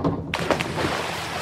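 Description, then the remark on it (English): A sudden splash as someone dives into a swimming pool on a hot summer day, followed by a steady rush of churning, bubbling water that continues at an even level until the end. “Diving into your pool on a hot summer day.”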